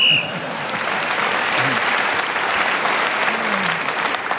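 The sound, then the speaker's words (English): A short, sharp referee's whistle blast sounds at the very start, marking the end of a round, then gives way to loud, sustained applause from a large audience. “So, at the end of that round, Tony Hawkes, with points in the round and one for speaking's whistle, has increased his lead.”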